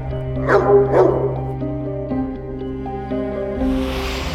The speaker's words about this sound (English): The dog got on Berkowitz's nerves. Apparently, the dog barked too much. Berkowitz could hear him from his window.